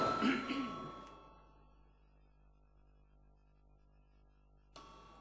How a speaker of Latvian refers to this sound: Paldies, lūdzu zvanu.